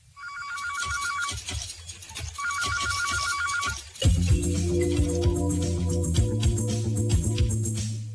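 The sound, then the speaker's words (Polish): A telephone rings clearly in two trilling bursts with a short pause between, as Filip Kady phones Mr. Tavares to announce his coming arrival, before a swell of music takes over and continues to the end. “Pana Tavaresa zawiadomił telefonicznie o swoim rychłym przyjeździe.”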